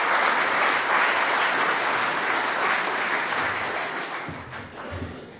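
A crowd applauds with dense, steady clapping that fills the whole clip, loud and sustained, then begins to thin and fade slightly toward the end.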